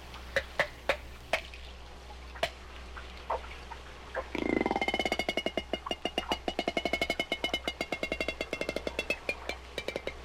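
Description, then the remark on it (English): Resident killer whale echolocation clicks underwater, used to navigate and hunt: a few sharp, scattered clicks give way, after a brief low whoosh, to a steady rapid train of crisp ticking pulses that continues to the end, with no voices. “They emit a series of clicking sounds, which they direct forward in a focused beam, much like sonar.”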